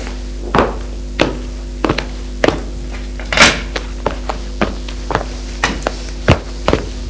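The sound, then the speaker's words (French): A man pulls out a chair opposite a woman and sits on it: a dozen scattered wooden thunks and knocks, fairly crisp, with one longer scraping bump in the middle, over a low steady hum. “Et Michel va s'asseoir sur la chaise qui est en face d'elle.”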